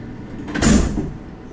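A heavy metal sliding door next to a large red sign reading "No hostages beyond this point" rolls open or shut in one short, loud rushing scrape with a low rumble, fading quickly into a quiet background with no voices.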